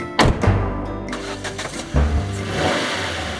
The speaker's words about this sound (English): She starts the engine and drives away at speed out of the car park.